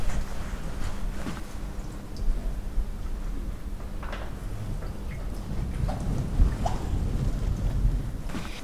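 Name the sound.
bubbling water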